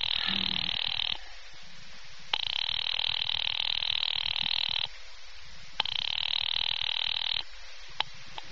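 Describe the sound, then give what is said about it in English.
A telephone rings on the line as a call is put through to the Murray Hill exchange, to an office late at night, buzzy bursts in a steady cadence: three long rings separated by short pauses, heard slightly muffled as if through the receiver, with no voices. “Ringing Murray Hill”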